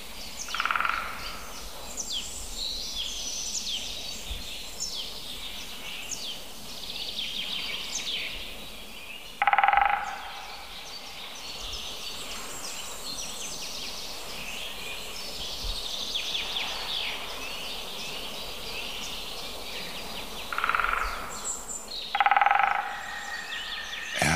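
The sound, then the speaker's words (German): A great spotted woodpecker drums on a dead branch, used as a resonator, in its mechanical courtship display: three short, rapid, loud rolls, one alone and then a pair near the end, over a steady chorus of birdsong in a forest. “Das ist kurz an einem toten Ast als Resonanzkörper benutzt. vorgetragenes mechanisches Balz. Gerufe der Spechte.”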